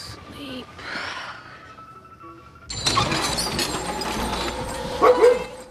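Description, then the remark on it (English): After a quiet, hushed opening, loud clattering and rattling noise bursts in as a pulley system is set into motion, and a white dog barks a few times amid the din, most sharply near the end. “white dog barks as a pulley system is set into motion.”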